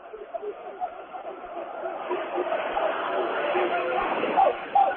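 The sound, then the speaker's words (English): A crowd at a basketball game at night keeps up a steady murmur of overlapping chatter that swells over several seconds, with a few brief higher voices and a faint laugh poking through the babble near the end. “Nice crowd here tonight.”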